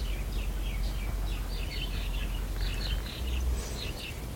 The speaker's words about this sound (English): See, I speak birds and they said that's right.